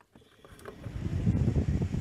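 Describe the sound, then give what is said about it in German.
A small 12-volt fan, connected to the main 12-volt output of a charge controller and run from a battery and solar panel, spins up, its low whirring hum and airy rush swelling steadily louder over about two seconds, with no voices. “Und das könnte man jetzt nutzen als Ventilator im Sommer, wenn es zu heiß ist.”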